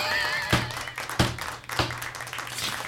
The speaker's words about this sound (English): Woohoo! There's a little round of applause for drugs.